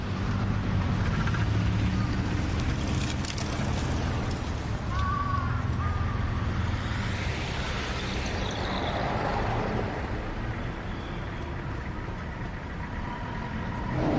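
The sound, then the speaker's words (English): Busy road traffic rumbles steadily at a pedestrian crossing, with engines idling and passing, a brief hiss like an air brake, and a faint high electronic beep partway through, like a crossing signal. “They station themselves beside pedestrian crossings.”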